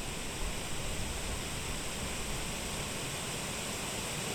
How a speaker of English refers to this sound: But hold that thought as I'm seamlessly going to take you from wind to the sound of water. Can you tell where the wind ends and the water begins?